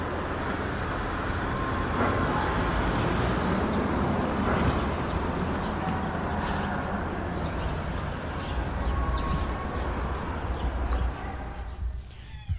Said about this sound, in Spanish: Como veis, aquí ya se oye un nivel de decibeles un poquito más elevado, un tráfico más pesado, pero todavía no es algo insoportable. Esto está cerca de un parque